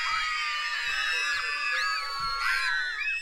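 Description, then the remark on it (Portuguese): A large crowd shouts and screams all at once, a dense, loud wall of overlapping high-pitched voices that holds steady for several seconds with rising swells of yelling. “Mas então, todos na multidão começaram a gritar.”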